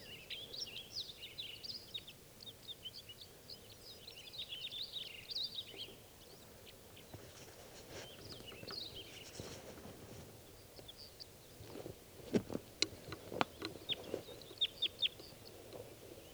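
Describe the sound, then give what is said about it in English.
Wild birds, two males and one female, perched in spruces by a net setup, chirp in quick, high-pitched bursts through the first several seconds, then call more sparsely, while a few sharp clattering knocks stand out near the end. No one speaks. “And these birds don't look like they're too anxious to come down.”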